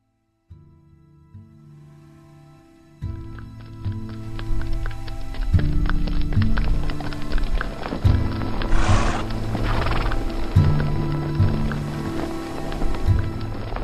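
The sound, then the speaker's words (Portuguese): A horse whinnies as a whip is cracked on its back, amid steady, rhythmic clip-clopping hooves that start faint and grow louder after a few seconds as riders set off toward the town by the forest of Gloucester, with a low musical drone running underneath throughout. “O João estala o seu chicote no lombo do cavalo.”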